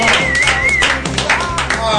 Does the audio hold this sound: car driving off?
no